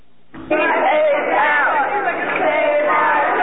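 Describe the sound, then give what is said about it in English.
A loud crowd of parents shouting and chanting together in a dense, continuous roar of overlapping angry voices, protesting a Queens, New York school system decision to let a second grader with AIDS attend regular classes. It bursts in sharply after a brief quiet moment and stays steady throughout. “The sound of angry parents protesting a decision by the Queens, New York school system to allow an unnamed second grader with AIDS to attend regular classes.”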